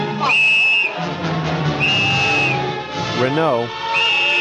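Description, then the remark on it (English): Captain Renault, prefect of Casablanca Police, blows his police whistle in three long, shrill, steady blasts, loud, with overlapping voices and crowd commotion churning underneath between the blasts. “Renault had a whistle.”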